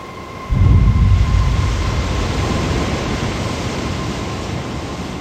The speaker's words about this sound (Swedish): Det är mitt i natten, i slutet av september. Det blåser storm och i havet rasar 6 meter höga vågor. Det var väldigt mörkt, man såg ingenting.